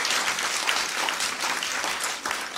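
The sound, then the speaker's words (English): A large crowd at Grace church bursts into loud, sustained applause to welcome visitors and guests, a dense wash of clapping that stays steady and energetic for a few seconds with no voices over it. “And if you are new here today, we love having visitors, and this outrageous, enthusiastic, over-the-top round of applause is to welcome you here into our home, here at Grace.”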